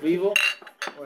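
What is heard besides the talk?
glasses clinking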